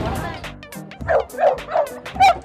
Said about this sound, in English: Friend or foe? Mean street dog.